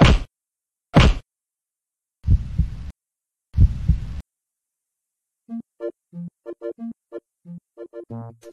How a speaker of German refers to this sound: Und das könnte an sich schon eine schöne Szene sein, aber dann kommt halt noch dieser Nachklang, dass nämlich dann Max aufsteht und erstmal bei Sam eine Herzmassage machen muss, bis dessen Puls wieder anspringt.